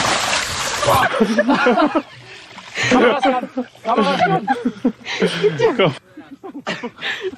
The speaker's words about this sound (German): Es hört sich alles sehr feucht an, es hört sich nach einem großen Platscher an. Oh Gott. Er ist samt Kamera, ist er in das Fidschi-Wasser reingefallen.